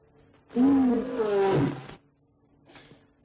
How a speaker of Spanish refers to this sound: ¿Otra vez, lechuza? ¡Lárgate, hombre!